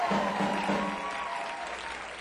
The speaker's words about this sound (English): Y'all give her a big round of applause.